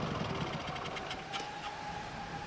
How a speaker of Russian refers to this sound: Мотоцикл качало, подбрасывало, заносило в ухабах, и он взмок, пока выбрался на большак.